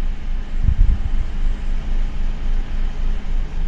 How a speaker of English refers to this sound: I think now there's a couple more cars, so it's maybe getting a little bit irritated with us, because it's now heading away from us into the veld.